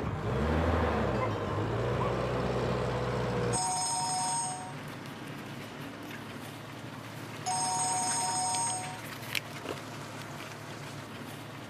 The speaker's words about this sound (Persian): خانم این گوشی خودشو کش، نمیخواییم برداری؟ سرم رفت.